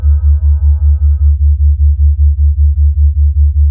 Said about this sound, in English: These tones healed all ailments, including cancer, headache, stomach aches, colds, and flus. Balmic tones can be broken down into many combinations of sounds and rhythms.